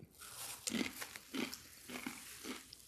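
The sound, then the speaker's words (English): Crunchy chewing on an extremely hot chip that smells terrible: four or five crisp, crackling crunches in a steady rhythm about every half second, with no talking over them. “It's just, it sounds like a chip. Just like a normal chip.”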